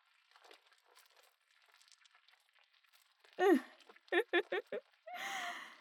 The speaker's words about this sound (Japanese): スライムがうぞうぞと足を這い上がってきたわね。スライムってひんやりしていて気持ちいいでしょ。